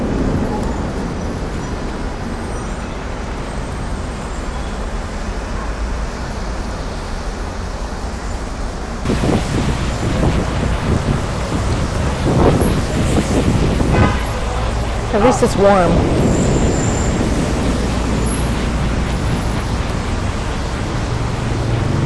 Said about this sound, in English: That was thunder. There's flashes of thunder everywhere. Sorry. Flashes of lightning, sounds of thunder.